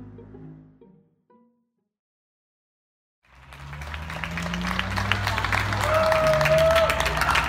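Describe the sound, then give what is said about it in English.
After a brief voice and a short silence, scattered clapping from many people at their open windows at 7 o'clock at night swells into sustained applause for hospital workers and ambulance drivers, echoing around an open space, with a whistle cutting through near the end. “In the spring, people started applauding hospital workers and ambulance drivers at 7 o'clock every night.”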